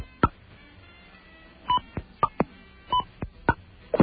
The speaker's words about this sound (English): A beep. What do you suppose that beep meant? I only hit a touch tone.